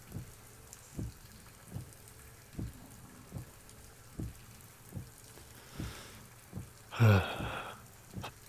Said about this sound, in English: Goddamn rain. I'm freezing.